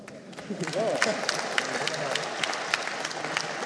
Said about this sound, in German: Ein herzlichen Applaus! Applaus! Ich kenne den Gewinner noch gar nicht, ob es sich lohnt, hier überhaupt was zu sagen. Ja, danke für den Applaus.